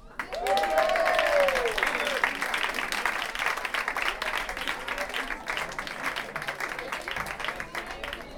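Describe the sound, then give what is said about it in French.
An audience at a concert applauds steadily throughout, a dense wash of many hands clapping, with a brief high cheer rising over it near the start before the clapping gradually softens. “Ah non, bon, on applaudit pas.”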